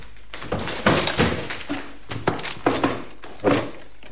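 The door of apartment 231 is forced open with a string of heavy thuds and cracking bangs, about seven blows landing at uneven intervals, with no voices over them.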